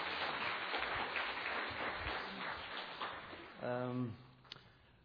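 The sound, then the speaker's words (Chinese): A crowd applauds in a dense, steady wash of clapping that gradually thins out, then a short voice cuts in near the end as the applause fades. “再次掌声鼓励他们。”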